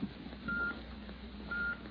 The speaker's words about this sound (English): Now you'll hear a different kind of sound, the sound of time in its flight. The electrical impulse that produced that steady beep, beep, beep had its origin in the famed observatory of the Elgin Watch Company, the observatory that times your Elgin